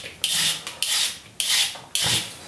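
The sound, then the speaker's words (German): Four rasping scrapes of a peeler drawn along a carrot early in the morning, each a bright, hissy stroke lasting about half a second, coming in a steady back-and-forth rhythm with short pauses between. “Möhren mal die Schale ab.”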